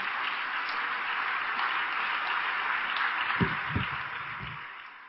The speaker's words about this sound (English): Can we hear it for him, please? Ahimsa Vishwabharti, as I just told you, yes. Louder applause, please.